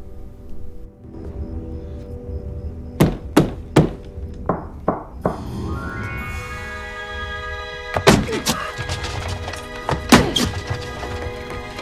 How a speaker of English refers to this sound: Upon hearing the invisible being scuttled to the wall, he walks over and bangs on the wall with a broom. The beat is repeated back to him.